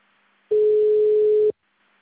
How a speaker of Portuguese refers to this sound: Vocês estão me ouvindo? Começou a apitar aqui, tá ouvindo?